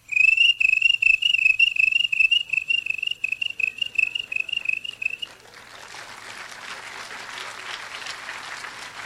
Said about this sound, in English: A dozen crickets.